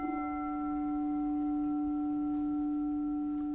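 A metal singing bowl, a rin, rings with a steady, sustained hum: a strong low tone layered with several fainter, shimmering higher overtones that hold evenly for the whole few seconds, with no voices.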